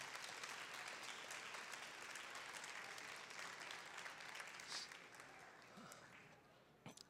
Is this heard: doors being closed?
no